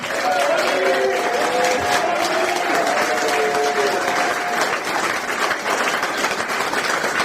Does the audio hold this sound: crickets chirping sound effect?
no